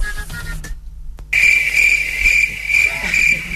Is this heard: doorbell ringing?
no